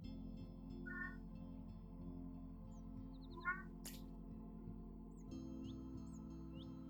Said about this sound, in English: my cat, wants to have his say as well. I find that animals tend to be drawn whenever I'm doing this work.